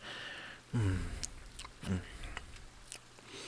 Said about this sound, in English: Let me just start chewing this up again. Now, this next bubble is gonna have a little bit of you in it.